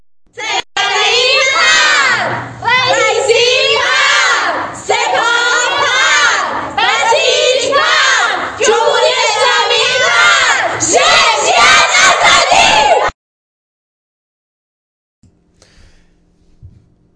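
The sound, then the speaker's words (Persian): A large group of Iranian high school students, girls among them, shouts loudly and continuously for about twelve seconds, voices overlapping in rhythmic bursts like chanting, before cutting off abruptly into near silence. “و ویدیوهای بعدی یه سری ویدیو هست از دخترای دبیرستانی یا کلا بچهای دبیرستانی، چند تا ویدیوی مختلف هست.”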